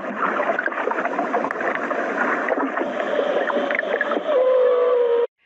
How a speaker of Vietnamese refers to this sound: Các bạn có nghe âm thanh rì rào của biển khơi và bài hát của cá voi không?